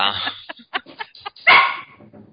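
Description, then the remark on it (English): A dog barks in a quick series of short, sharp yaps, then lets out one louder, drawn-out bark near the end, fairly loud. “Your dog agrees. My dog's weird.”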